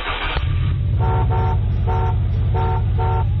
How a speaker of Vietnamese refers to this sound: Vừa lúc ấy, tài xế dồ máy xe, bóp còi inh ỏi, và anh lơ luôn miệng hối khách, còn đứng dưới đất, mau mau lên ngồi vào chỗ của mình.